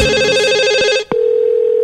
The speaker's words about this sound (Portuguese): Olha, o telefone tocou. Alô, do telefone, bom dia.